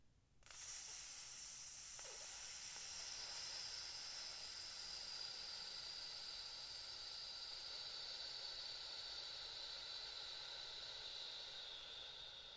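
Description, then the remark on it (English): A long, steady hissing exhale through the teeth during a breathing exercise, after breathing in through the nose. It starts abruptly, holds a bright, airy tone for about twelve seconds, and tapers slightly at the end. No one speaks. “breathe out, just like that with that hiss.”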